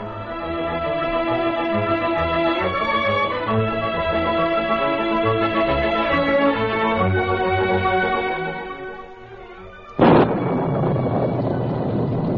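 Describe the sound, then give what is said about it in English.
Sustained musical chords play for about ten seconds, then a sudden loud crack of thunder bursts in and keeps rumbling heavily to the end, in a heavy spring storm with lightning and torrential rain in the Yukon. “Lightning split the heavens and thunder echoed from the hills.”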